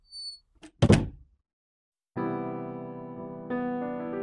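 door being opened

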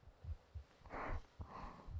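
heartbeat

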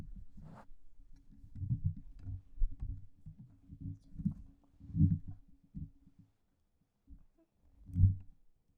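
microphone being repositioned

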